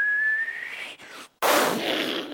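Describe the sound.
A thin, kettle-like whistle climbs steadily in pitch for about a second over a steady hiss as a fuel nozzle pumps gasoline full blast into a gas tank, then cuts out; after a brief silence a loud rushing gush of noise bursts in as about two gallons of gasoline spew back out.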